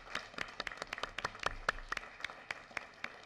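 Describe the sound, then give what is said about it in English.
A round of applause: a steady run of crisp hand claps, fairly even in rhythm and moderately quiet, with no voices over it. “And I'd like to give her a special round of applause because that's quite an accomplishment.”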